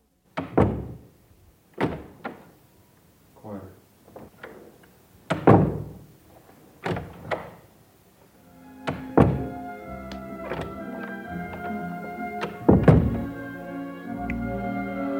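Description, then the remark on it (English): A series of loud door slams of the doors in director Francis Ford Coppola's house, recorded for a scene in The Godfather, each a heavy thunk with a short echoing decay, spaced irregularly; in the second half a steady tonal hum sits beneath the slams. “of The Godfather, when Michael Corleone closes the door on his wife to signify he's now working for the family, Murch recorded all the doors in director Francis Ford Coppola's house, listening for the door slam that would have the sound of betrayal.”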